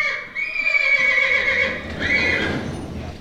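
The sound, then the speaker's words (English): A horse on a ranch near Spanish Fork, Utah, whinnies loudly, one long quavering neigh followed by a second shorter burst, with no voices. “Ivy has about 50 horses on his ranch near Spanish Fork”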